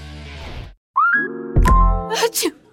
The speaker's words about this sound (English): that sneeze means you do not want to venture out into all that pollen